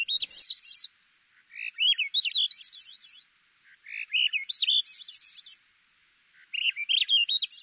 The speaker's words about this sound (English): The most skilled songsters, like these thrushes, can work the two sides of their syrinx independently to produce two simultaneous notes. The song of the Swainson's thrush always ends in a spiral of ascending notes.